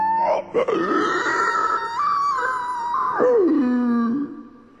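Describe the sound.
A man's voice imitates an elk (wapiti) bugle: a low grunt rising into a long, sustained high whistling tone that wavers, then slides down into a deep moaning finish, loud and unbroken by speech.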